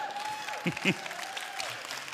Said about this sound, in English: And by the way, all the people clapping are people who have already been baptized.